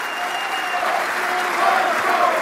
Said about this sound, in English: They're saying, run, Joe, run. You can hear them cheering.